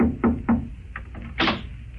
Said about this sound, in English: I was about to take off after it when there was a knock on my door.